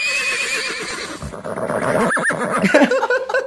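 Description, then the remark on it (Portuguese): A voice imitates a horse's neigh, a loud, quavering whinny that trembles up and down for a few seconds before breaking into higher, snorting bursts at the end. “Cavalo.”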